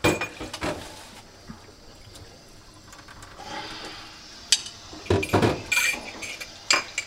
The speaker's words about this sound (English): Oh no, this is actually the hard part. So I finally did the dishes,